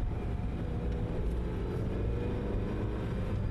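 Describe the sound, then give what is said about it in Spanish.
A steady, low engine rumble of a car driving behind the speakers' car, a continuous drone with no breaks and no one speaking. “Hay un coche detrás de nosotros.”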